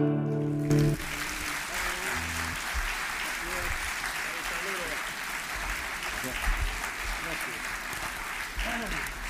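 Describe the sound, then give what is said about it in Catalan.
Sustained applause from an audience fills the space, a dense, steady clatter of many hands clapping after a brief tonal note at the start, with faint voices mixed underneath. “Moltes gràcies per la vostra atenció, els aplaudiments i fins aviat.”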